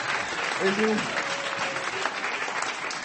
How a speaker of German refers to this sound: Das ist Ihr Applaus